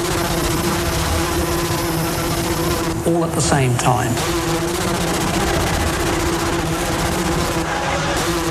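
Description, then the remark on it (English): A steady, low-pitched buzzing drone hums continuously at an even level, like many insects or a motor droning together, while a voice speaks briefly over it partway through. “Very unusual noise. Buzzing.”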